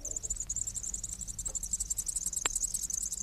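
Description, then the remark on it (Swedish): A steady, very high-pitched buzzing chorus of woodpecker nestlings in the nest, thin and insect-like, running unbroken throughout with a faint low rumble underneath and one short click partway through. “Det är ungarna.”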